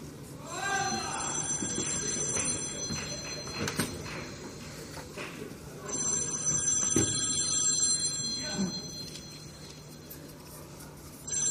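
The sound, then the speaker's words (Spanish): A telephone bell rings in two long, insistent bursts separated by a brief pause, fairly loud and close, over a low background of room noise and faint murmuring. “Señorita, por favor, ¿quiere usted coger el teléfono?”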